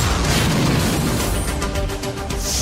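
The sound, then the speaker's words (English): A loud bomb explosion roars through the whole clip as a dense, sustained rumble with crackling, rattling debris layered on top, and no voices. “Any birds find this cargo truck, boom.”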